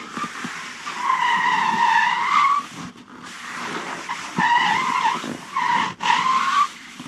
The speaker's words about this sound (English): So that's the screeching tires. It's the hot water bottle, little puff of air inside, tightener up, and then just run it across your kitchen floor. And that's been done, yeah, like pretty much every film.